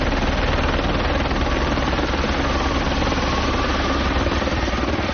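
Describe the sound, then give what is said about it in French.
An Écureuil helicopter aboard the ship Marion Dufresne runs its engine loud and steady, a dense mechanical roar with a rapid rotor chop throbbing throughout, no voices audible. “Cette machine, c'est un écureuil, donc.”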